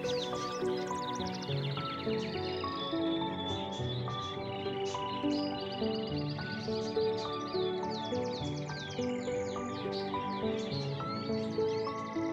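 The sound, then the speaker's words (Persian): Birds chirp and twitter in quick, high, repeated calls, layered over a steady, continuous bed of instrumental music, with no one speaking. “صبح تا شب شونه به شونه هم زیر آفتاب دراز میکشیدن و به آسمان نگاه میکردن و اون وقت به آواز پرندگان گوش میدادن.”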